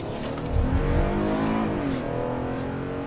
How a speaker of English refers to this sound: Inspectors patrolling Wisconsin's roads can also pull over trucks, and Johnson's doing that now.